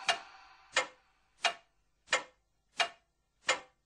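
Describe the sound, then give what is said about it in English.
A clock ticks steadily, six crisp ticks at an even pace of a bit more than one per second, with no voices or other sounds around them. “Check the clock.”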